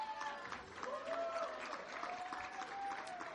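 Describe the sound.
A church audience applauds steadily, a dense wash of clapping that holds at an even level throughout, with a few cheers and voices rising over it.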